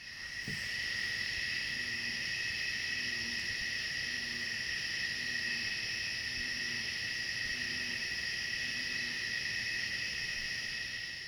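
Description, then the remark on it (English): A faint, low bullfrog call repeats in a steady series of short pulses beneath a constant, loud, high-pitched drone of chirping insects that runs throughout, recorded near a private dock on Clater Lake in Pulaski County. “First, near a private dock, a bullfrog's call sounded faintly underneath insects chirping.”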